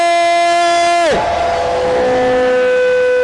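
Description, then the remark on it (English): A church audience shouting glory to the Lord: a single held tone drops away, then a loud, sustained roar of many voices shouting and cheering together fills the rest. “If you are, give the Lord a shout. Somebody shout glory.”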